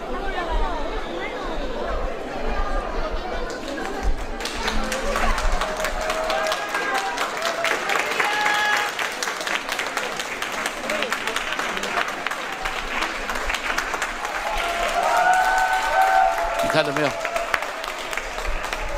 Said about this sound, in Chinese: 他们的柜台的人都会站起来欢呼。